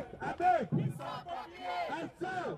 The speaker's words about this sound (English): Protesters wave placards high and shout through a megaphone outside a bleak, imposing building with high, barbed wire-topped walls. This is Colnbrook Immigration Removal Centre, on the edge of London in the UK.